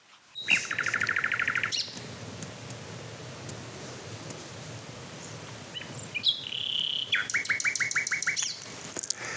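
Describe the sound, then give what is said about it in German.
Nightingale song: a rapid burst of repeated notes, a pause, then a clear high whistle followed by another fast series of chattering notes, loud and alone over a soft hiss. “Ich wünsche euch viel Spaß auf der Reise zur Nachtigall.”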